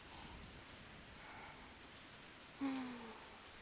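Steady rain falls in the Kanto region of Japan during the rainy season, a soft continuous hiss with faint patter, joined near the end by a brief louder splash or gust that swells and fades. No voices are present.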